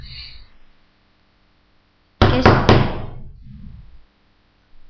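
Three sharp knocks in quick succession on the wooden door of a grandmother's house, loud, followed by a short resonant decay into near silence.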